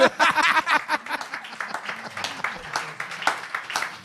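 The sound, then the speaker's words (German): An audience claps, a brief burst of dense, crackly applause that soon thins into scattered, half-hearted claps, with voices murmuring underneath. “Guck mal, sie klatschen die auch alle so traurig.”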